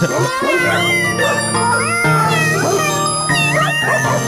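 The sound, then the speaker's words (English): A series of loud, drawn-out cat meows with rising and falling pitch, about four in a row, over a steady droning musical backing. “I don't know what's more annoying, the cats or the dogs.”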